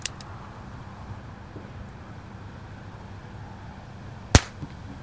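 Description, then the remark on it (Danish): A single sharp crack of a small-caliber .22 short revolver shot rings out near the end, short and snappy, over a steady low outdoor rumble and wind with no talking. “Det her er lyden af en kaliber 22.”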